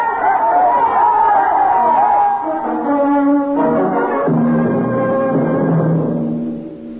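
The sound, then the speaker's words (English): An angry crowd of many voices shouts and clamors at once while chasing a heretic and his companion down a long steel corridor, a continuous agitated roar of yelling that stays intense before fading slightly at the end. “Riker and Aylin ran down the long steel corridor with the crowd on their heels.”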